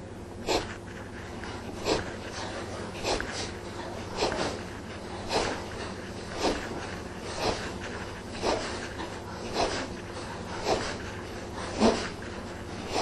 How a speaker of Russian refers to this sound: Капалабхати. Делаем. Давайте сделаем 27 раз капалабхати.